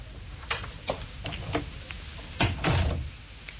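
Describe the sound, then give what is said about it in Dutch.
A door closing: a few light clicks and taps, then a louder thump with a short scraping swing as it shuts. No one speaks. “En niet zeggen totdat de deur weer dicht is.”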